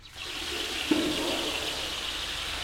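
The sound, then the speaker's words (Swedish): Water from a tap turned to its coldest pours out in a steady, full rush for a couple of seconds over a person sitting up after a scrub and foam massage, with a brief splash early on and no voices. “Sia vrider vattenkranen till det kallaste och häller sedan vattnet över mig.”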